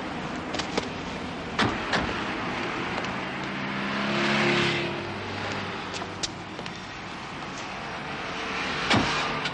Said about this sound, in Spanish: Manolo arranca y se incorpora a la circulación.